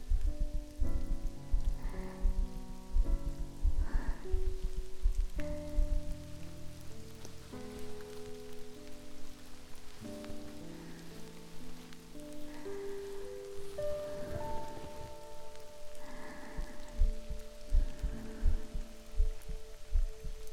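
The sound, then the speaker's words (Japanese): Steady rain patters on a surface, a soft continuous hiss with scattered drops, heard beneath sustained, gently shifting musical tones with no one speaking. “雨濡れてきた。”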